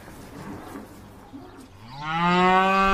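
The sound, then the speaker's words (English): A dying cow lets out a long, loud, strained moo that swells in after a couple of seconds of quiet rustling background, sounding distressed. “That's just what I need. A cow dying on me.”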